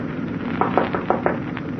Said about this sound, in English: At exactly 4:30, I knocked on the captain's door.